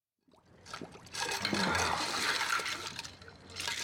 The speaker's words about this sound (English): This is in this scene. Leo DiCaprio plays Rick Dalton, a washed up actor who has a drinking problem, who's putting his face in ice water as the director comes in to talk to him.